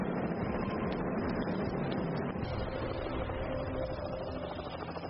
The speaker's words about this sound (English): That's a heli out of here. But man, this is some place to be dropped. Just on a sandbar with the tide rising.